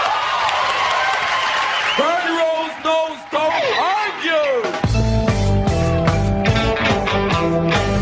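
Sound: studio audience applause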